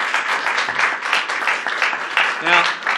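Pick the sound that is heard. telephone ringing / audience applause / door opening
audience applause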